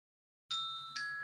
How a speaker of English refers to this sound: And just in case you wondered, the bells are ringing to confirm that.